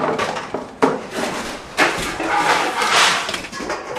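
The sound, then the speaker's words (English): Pots and pans clatter and bang in a ship's kitchen as a big roll of the ship on a rough day on the Drake Passage knocks them around, with two sharp metallic knocks standing out amid a continuous rattling, scraping jumble of cookware shifting around. “While I'm in the kitchen, a big roll knocks pots and pans around and sends dinner ingredients across the floor.”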